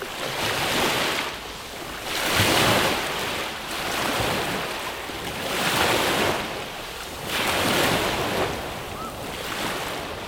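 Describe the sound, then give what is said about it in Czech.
Waves of a dark sea wash onto a narrow beach of coarse brownish sand strewn with litter, beside a cathedral under construction, in steady surges, each broad hissing splash swelling and fading about every two seconds, loud and continuous with no voices. “Proto neohroženě kolem rozestavěné katedrály zbíháme k moři, které má teď potemnělou barvu a vzlíná k nám s jakýmsi zlověstným šploucháním.”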